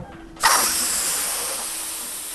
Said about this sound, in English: That joyous sound of helium balloons inflating may be limited this holiday season.